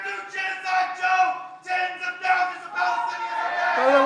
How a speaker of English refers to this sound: So the crowd then shouts the protester down with chants of four more years, and then Biden responds like this.